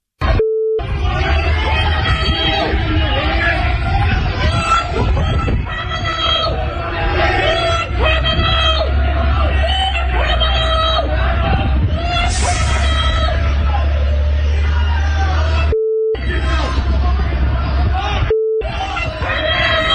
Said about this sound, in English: Poor Hillary heckled, booed outside of the of Queen's University in Belfast as she attended a ceremony installing her as the college's first female chancellor. Anyway, calling her a war criminal.